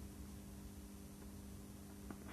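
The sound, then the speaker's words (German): A white-noise stimulus played to a bird in a hearing experiment: a steady, unbroken hiss fills the whole stretch at an even, fairly soft level, with a faint low hum beneath and a tiny click near the end; no one speaks. “Haben Sie gehört, dass es jetzt nur das Rauschen war?”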